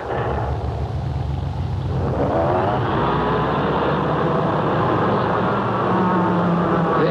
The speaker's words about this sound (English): we gotta give Ben his car. Let me back it out the shop